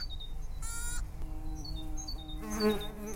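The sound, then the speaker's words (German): A wild bee boring into deadwood, heard as a steady, low droning buzz that swells and fades, with a louder burst near the end and faint high bird chirps in the background. “Manchmal müsse man freilich etwas nachbohren, so wie diese Wildbiene, die sich gerade in ein Stück Totholz bohrt.”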